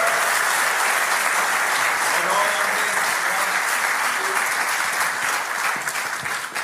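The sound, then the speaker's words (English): Steady, loud audience applause fills the whole stretch, a dense wash of many hands clapping at once that thins only slightly toward the end, as the speakers head off stage. “Let's give them a big round of applause as these guys head off stage.”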